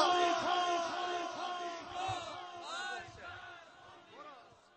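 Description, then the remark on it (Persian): A large crowd shouts the slogan 'Death to America' (marg bar Amrika) in Persian in unison, many voices rising and falling together in loud, rhythmic bursts that fill the whole stretch without a pause. “فریاد بزن مرگ بر آمریکا.”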